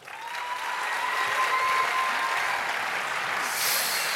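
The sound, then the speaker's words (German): An audience claps for Team Green, to judge which team gets the loudest applause, steadily for about four seconds, a dense, even patter of many hands that holds at a constant moderate loudness, with a brief brighter swell near the end and no voices. “Okay, wir haben ja gesagt, damit wir nicht schuld sind, lassen wir das Sofa entscheiden, wer am lautesten geklatscht, also für wen am lautesten gequatscht wurde.”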